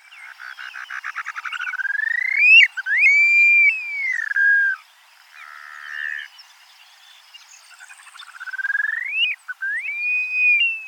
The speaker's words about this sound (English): It's a grassland species that couldn't give a hoot about the coast or wetlands. Here's the ethereal cry of the upland sandpiper, heard on the American prairie.